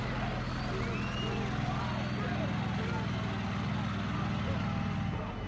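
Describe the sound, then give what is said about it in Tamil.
The engine of a bulldozer brought by the Sri Lankan army to demolish a house rumbles steadily with a deep, throbbing low drone that holds at an even loudness for the whole stretch, with indistinct voices of soldiers cheering mixed faintly into the noise. “Bulldozer சத்தம் கேட்கிறது.”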